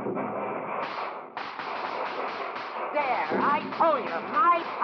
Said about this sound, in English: What's that? The fireworks!